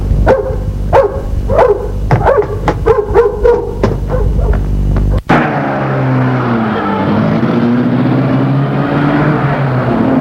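A dog barks repeatedly in quick bursts, then the scene cuts abruptly to a car engine starting and rumbling steadily as a man takes his car and drives away in heavy, hot weather, a fairly loud, continuous hum.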